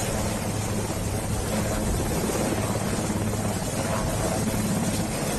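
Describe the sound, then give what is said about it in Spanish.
The US presidential helicopter, taking Joe Biden and his wife Jill away for the last time at the presidential inauguration, roars with its engine and rotors in a steady, loud drone throughout, with a low throbbing hum beneath a wash of wind-like noise and no voices. “Como dicta el protocolo, el presidente Trump y la primera dama, Melania, despidieron a Joe Biden y a su esposa Jill antes de que cogieran por última vez el helicóptero presidencial.”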